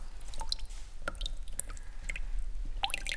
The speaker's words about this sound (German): Das niemals enden wollende Tropf-Tropf, die schneidend kalte Luft und der kalte Steinboden lieferten die grausame Gewissheit.